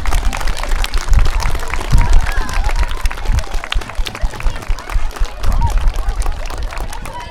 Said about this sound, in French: Les remerciements aussi également à Monsieur Julliard, inspecteur d'académie et conseiller pédagogique également, Madame Dupin, et ainsi que tous vos enseignants, et là on peut les applaudir, et les accompagnateurs.